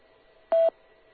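A single short electronic radio beep signalling the next speaker, clear and steady, lasting under a quarter second, with a faint background hum before and after and no talking.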